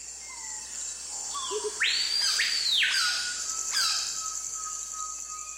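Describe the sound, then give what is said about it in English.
Dense Peruvian Amazon rainforest ambience with several birds calling at once: whistled notes, a loud swooping two-part call, and a constant high insect drone beneath, with no voices. “In the Amazon, heat and humidity virtually smother you. Although a cacophony of bird calls surrounds you, it's hard to see even a single bird.”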